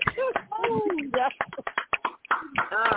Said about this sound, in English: Ladies and gentlemen, please unmute your mics for a round of applause